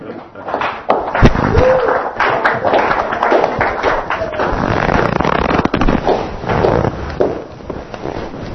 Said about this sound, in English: And you're the recipient of thunderous applause.